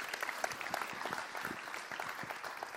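A crowd applauds steadily, many hands clapping in a dense, crackling patter that holds an even loudness throughout, with a slightly sharper clap near the end.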